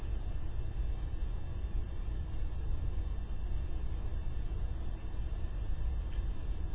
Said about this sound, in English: Slight sound of the cars.